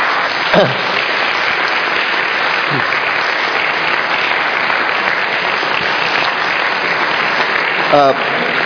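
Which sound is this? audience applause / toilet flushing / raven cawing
audience applause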